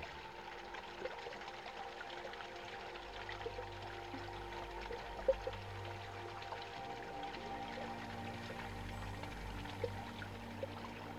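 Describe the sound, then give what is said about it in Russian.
Water washes gently and continuously over sand, a soft, steady hiss with faint ripples and a low, even rumble underneath, with no voices. “Легкое трение воды и песка создает гармоничную мелодию природы.”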